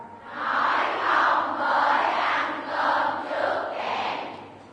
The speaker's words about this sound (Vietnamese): Các cháu hãy nói lớn lên: nói không với ăn cơm trước kẻng. 1, 2, 3.